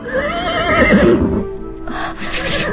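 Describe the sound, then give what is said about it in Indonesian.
A horse neighs loudly, a long shrill whinny with a quavering, descending tone, followed by a rougher snorting, blowing sound at the end. “Endang Puspitasari mencoba bertahan di atas kuda, tapi akhirnya dia pun melorot ke bawah dan jatuh di pinggiran jalan.”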